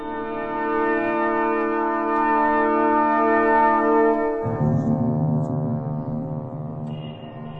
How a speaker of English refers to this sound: We are fortunate to hear Big Ben, comrades. Big Ben's chimes had not been ringing for some time.